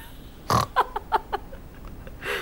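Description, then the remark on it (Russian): A man imitates a pig, starting with one loud snorting grunt followed by a quick run of four or five shorter, fading grunts, with no talking. “Я говорю, скажите, а вы сегодня не хрюкали?”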